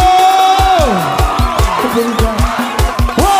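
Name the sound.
audience cheering and whooping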